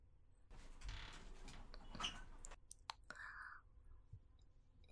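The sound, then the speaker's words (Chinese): A door is eased open a little: a soft scraping slide, a few sharp clicks of the latch, and a short squeak near the end, with no voices. “我明明已经开了很大一条缝了。”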